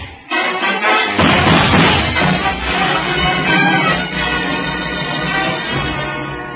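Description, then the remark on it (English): A dense, continuous barrage of gunshots with harsh clanging impacts, loud and sustained for several seconds with no voices, the blasts running together into a rough, rattling roar. “Well, Krieg kept firing into the metal door till his clip was empty.”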